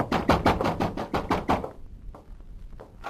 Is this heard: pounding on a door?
yes